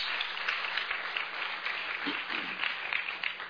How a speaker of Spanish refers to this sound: Imagínate, gloria al Señor, si le va a dar un aplauso, déselo con ganas.